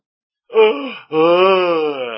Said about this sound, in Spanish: Al bosteceo. Qué terrible es que os pongáis a bostezar.